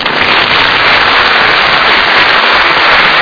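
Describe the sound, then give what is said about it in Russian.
Loud, steady applause from a crowd as a comedian comes out impersonating Kolya Baskov, a dense crackle of many hands clapping at once that holds at full strength for about three seconds with no voices over it. “Но Коля любит выходить под аплодисменты.”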